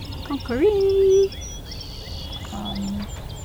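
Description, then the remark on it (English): Birds calling before sunrise on a Saturday morning over a field at Battelle Darby Creek Metro Park in Columbus: one loud, sustained whistling note rises and holds briefly, followed later by a lower, quieter tone, while faint high chirps and tweets sound. “The birds awake before the sun on Saturday morning, chirping melodies to fading stars.”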